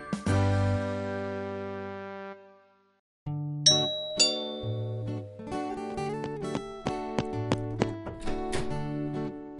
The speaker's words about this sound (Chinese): 叮咚，你来啦！